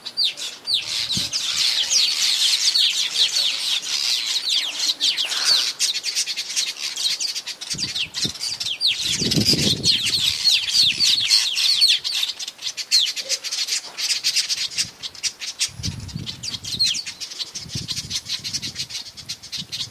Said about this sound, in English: These are weaver birds.